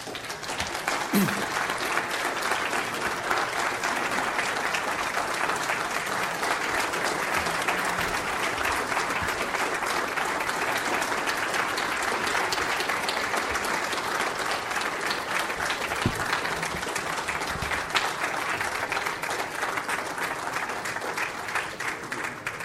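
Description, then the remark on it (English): A sustained, loud standing ovation from a large crowd after a speech, a dense steady wash of clapping that holds for over twenty seconds without letting up, with no voices rising above it. “We seldom, if ever, get a standing round of applause for a speech like that, like any we've had here, so that shows you how much it's appreciated”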